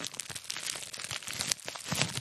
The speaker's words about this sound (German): Okay, das hört man nicht so gut, aber das ist dieses Papier, was man platzen lassen kann.